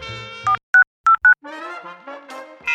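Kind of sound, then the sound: signal or alarm, telephone keypad dialing tones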